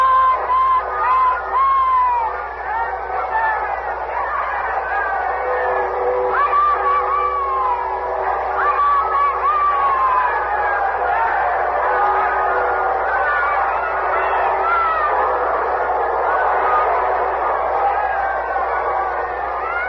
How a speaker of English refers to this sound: We'll open our microphones outside now and let you hear the crowd. Listen.